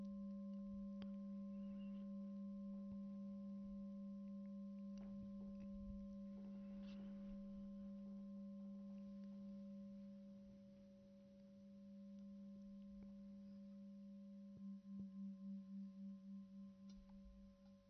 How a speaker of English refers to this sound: Noticing the sound of the bell passing through time.